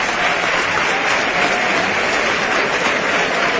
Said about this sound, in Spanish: La ovación unánime fortísima.